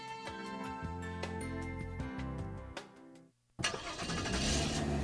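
A car engine cranks with a steady mechanical whir, pauses briefly, then catches and roars to life with a loud, rumbling hum. No one speaks.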